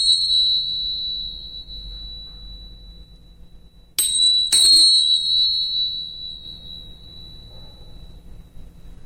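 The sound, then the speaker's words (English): Small tingsha cymbals clash together, two quick strikes about half a second apart, releasing a bright, high ringing tone that lingers and slowly fades, with an earlier chime still ringing at the start. “and then some small ting shots.”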